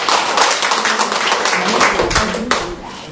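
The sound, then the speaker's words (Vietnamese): Dense, sustained, loud applause from a crowd, led by the women present, honoring Lê Thị Thành, with many hands clapping at once in a continuous wash of sound lasting a few seconds. “Mấy bà mấy chị một tràng pháo tay thật lớn để mừng Lê Thị Thành mình chứ.”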